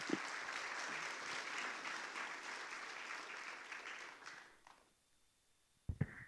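A crowd claps steadily in a dense, even wash of applause that holds for about four seconds, then fades out, followed by a couple of brief knocks or thumps.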